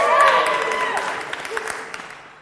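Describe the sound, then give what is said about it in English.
A crowd cheers and claps, voices whooping over a dense patter of applause that gradually fades over a couple of seconds. “We, okay, proper cheer.”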